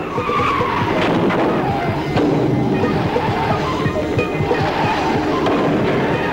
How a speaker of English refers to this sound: Frankenstein hangs on through a 360-degree skid, then steers his car into the ditch and forces it over the rough ground.